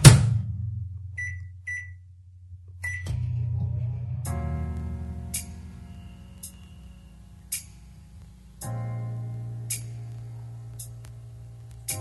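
A microwave oven in a kitchen hums steadily with a low drone after a few short electronic beeps near the start, while faint clicks tick at a regular pace throughout. Fairly quiet.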